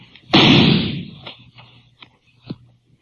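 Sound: gunshot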